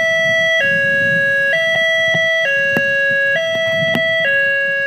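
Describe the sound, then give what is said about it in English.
A loud high-low emergency siren steadily alternating between two pitches roughly once a second, with a low rumble of street noise and a few sharp clicks underneath. “It goes and up and down, whereas the high-low goes like this.”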